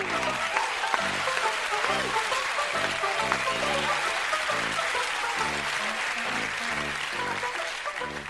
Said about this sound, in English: Let's have a big round of applause for Biff the dancing dog.